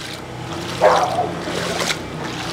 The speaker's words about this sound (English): You have to wade through knee-deep water